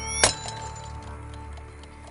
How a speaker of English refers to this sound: She drops her alarm clock on the ground.